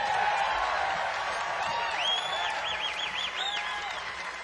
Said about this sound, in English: Get your hands together. Give my band a nice round of applause.